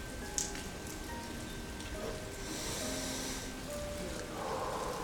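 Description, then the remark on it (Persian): Steady rain falling outdoors around a four-star hotel, a soft continuous hiss of drops with occasional louder patters, even throughout, with no voices. “و الان ما توی هتل 4 ستاره تاپ نشستیم، این فضای اطراف ماست و من این صدای بارون رو دارم گوش میکنم.”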